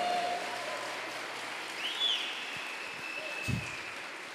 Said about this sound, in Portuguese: Quem está vindo pela primeira vez, só para a gente saber aqui. Uma salva de palmas para essas pessoas. Vamos acolher mais forte, igreja.